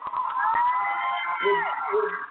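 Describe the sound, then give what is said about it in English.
Several voices scream and cheer together in loud, sustained, high-pitched cries that overlap for a couple of seconds without a break. “I hear everybody screaming and stuff, so it must be a lot of fun.”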